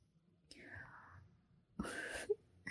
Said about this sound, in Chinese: 怎么不说话了？宝宝，宝宝，你喘气都变粗了。